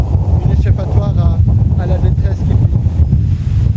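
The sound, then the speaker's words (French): Strong wind, well known in the local neighbourhood, buffets the microphone outdoors in a steady, loud, low roar throughout, with indistinct voices faintly audible beneath the gusting. “Il y a un grand vent, c'est oui, hyper connu ici.”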